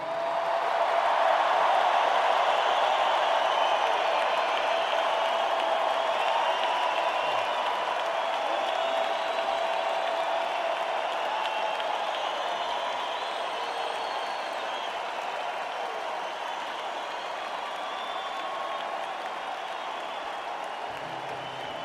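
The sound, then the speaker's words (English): A large audience at an evening event applauds a woman being honored, steadily for over twenty seconds, a dense, even wash of clapping that holds loud throughout and only eases slightly toward the end. “This is something that we don't fully grasp, and there's some of those folks here tonight, and I just we should give her the loudest applause of the whole evening.”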